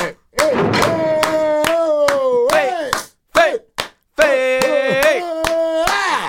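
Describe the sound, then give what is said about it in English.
Sharp hand claps repeat in a quick, uneven rhythm of roughly a dozen or more, sounding over a sustained, wavering voice that chants or sings between short pauses. “I just clapping because I want the Seahawks to lose.”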